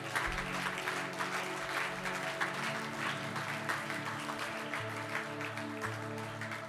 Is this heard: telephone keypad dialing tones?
no